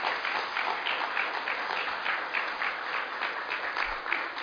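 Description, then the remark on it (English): A crowd applauds steadily, a dense wash of many hands clapping at an even, sustained level with no voices standing out. “And let's give them applause.”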